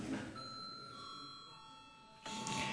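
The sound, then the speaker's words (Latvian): A parliament chamber bell rings before a vote on referring a bill to committee, with a steady, bright electronic tone for about two seconds, then cuts off abruptly. Soft murmur sits underneath, and nobody speaks over it. “Lūdzu zvanu.”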